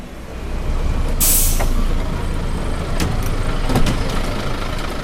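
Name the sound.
bus arriving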